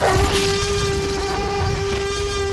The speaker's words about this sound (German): Hier hören wir ihn schon brüllen, den T-Rex.